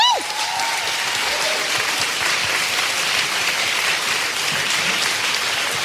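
Loud, sustained applause from a large audience welcoming a guest onto the stage fills the whole stretch, a dense steady roar of clapping hands, with a brief falling tone at the very start.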